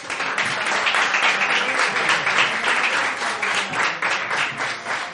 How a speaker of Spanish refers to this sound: Bueno, pues tras esta explicación tan edificante, recibamos nuevamente con un fuerte aplauso a nuestros concursantes